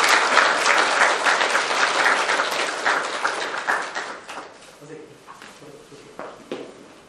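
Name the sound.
audience applauding in welcome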